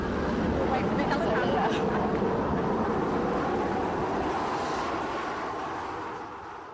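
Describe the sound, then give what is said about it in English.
A loud, steady rotor roar as helicopters pass overhead in the chaotic aftermath of Hurricane Katrina, with tanks also passing by; a broad rumbling wash that slowly fades as the aircraft move away, with faint voices beneath it. “They were living in their car and sat outside on a cardboard box to speak in the chaotic aftermath of the storm, helicopters and tanks passing by.”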